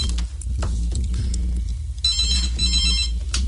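A telephone rings in bright, trilling bursts, strongest in the second half, over a steady low rumble like an engine or background hum. No one speaks.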